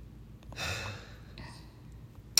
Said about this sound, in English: So, why'd you yawn? Now I'm gonna. I'm sorry. Hey, did we guys make you guys yawn? Because that would be cool.